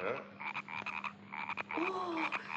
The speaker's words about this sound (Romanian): Ce minune, ce încântare. În sfârșit aud și eu privighetoarea și glas argintiv. Ca de clopoțel. Ăsta-i cântecul broaștelor. Da, cântecul broaștelor.